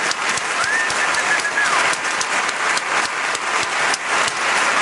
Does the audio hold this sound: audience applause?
yes